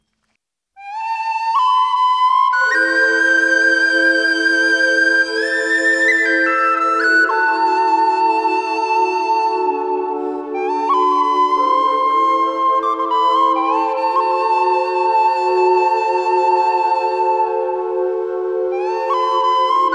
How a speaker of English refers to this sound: I will go out with a lovely musician on the tin whistle